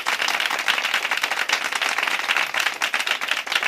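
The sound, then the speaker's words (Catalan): An audience at a morning conference session on serial killers applauds a speaker from the València police, a dense, even wash of many hands clapping at once, sustained throughout with no voices rising above it. “Moltes gràcies a tots per l'aplaudiment i sobretot per venir a la sessió de conferències que estem fent aquest matí.”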